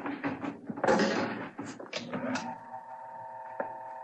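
An elevator door rumbles and clatters as it slides open and shut, with a few sharp clunks, then a steady mechanical hum carries on with one soft knock near the end.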